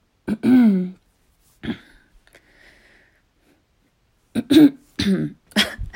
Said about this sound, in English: I didn't want to cough and like ruin the audio.